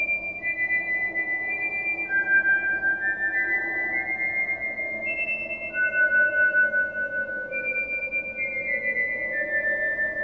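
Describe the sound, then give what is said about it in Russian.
A boy whistles a clear tune of sustained, high notes that step up and down in pitch, held steadily over a low, continuous background rumble. “Мальчик тут же насвистел какой-то мотивчик.”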